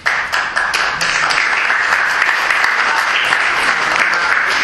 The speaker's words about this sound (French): Ne serait-ce que de commencer par s'applaudir pour entraîner les applaudissements des autres, c'est une technique que j'essaierai de me rappeler.